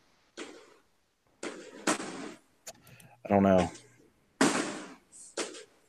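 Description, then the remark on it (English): Fireworks go off outdoors in a series of sharp, loud bangs with crackling tails, spaced irregularly over several seconds. A person briefly speaks between the blasts. “What's happening? Fireworks again.”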